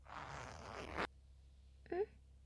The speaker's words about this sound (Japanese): チャック下ろすね。